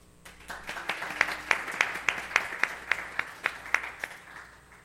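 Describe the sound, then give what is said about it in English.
Steady, rhythmic clapping for graduates at a church, with sharp, evenly spaced claps about three per second, over a soft bed of scattered applause, fairly loud and with no talking. “And then we have, go ahead, you can clap, yeah.”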